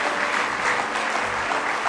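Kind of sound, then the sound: crowd, audience clapping hands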